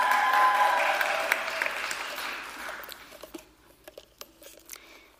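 Audience applause, a dense wash of clapping that starts full and steady, then thins out over a few seconds into scattered individual claps before fading away.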